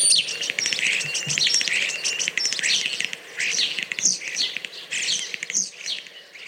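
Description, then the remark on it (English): European starling calls and chirps, a busy, continuous stream of squeaky whistles, clicks and rapid chatter, steady, with no voices. “Then if you happen to come across a young starling and raise it, it fits the bill and it's totally legal.”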